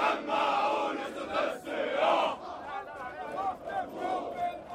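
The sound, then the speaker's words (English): Police recruits at a police academy compound on the outskirts of Cairo, Egypt, shout and sing together in unison at the start of the day, a loud massed chorus of voices rising and falling in rhythmic bursts, with brief dips between phrases. “Let me hear your loud shouts, they sing.”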